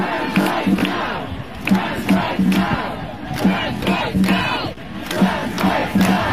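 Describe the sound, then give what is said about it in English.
A large crowd at the April 19th emergency trans rights demonstration in London's Parliament Square, protesting a UK Supreme Court ruling, shouts and chants together in rhythmic bursts, the massed voices loud and continuous with repeated surges roughly every half second. “Organizers and police officials alike marveled at the size of the crowd that spilled over into St. James Park.”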